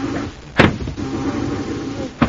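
A ray gun sound effect fires at Corey: a sharp burst, then a steady electric whirring hum that holds for over a second before a second sharp burst cuts in. No one speaks.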